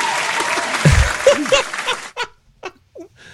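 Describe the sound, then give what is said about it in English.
A burst of dense applause mixed with whoops and laughter, loud, welcoming a guest to a show, lasting about two seconds before trailing off into a few scattered, isolated claps. “Everybody, round of applause.”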